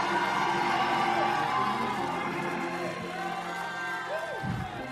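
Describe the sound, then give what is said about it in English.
An audience shouts and cheers together in a steady, dense roar of overlapping voices, with one voice rising in a high whoop near the end. “If you would like to have a true dream from God this very night, you better get to typing me, me, me, and y'all better get to shouting. No, I mean shout.”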